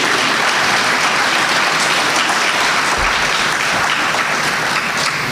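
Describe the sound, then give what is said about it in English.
A loud, sustained round of applause from a crowd at a community gathering, given again for a long-time community figure seated in the audience. Dense, steady clapping fills the whole clip with no voices breaking through. “And I think we need to give him another round of applause.”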